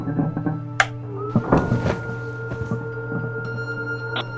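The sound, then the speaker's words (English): A spacecraft's launch doors close with a sharp clack, then a cluster of heavy mechanical thunks and grinding, all over a steady low electrical hum with faint tonal whines. “Closing launch doors.”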